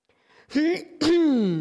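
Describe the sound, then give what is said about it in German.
A man clears his throat in two quick voiced bursts, the second longer and trailing off, fairly loud with nothing else around it. “Der schlanke … räuspert sich.”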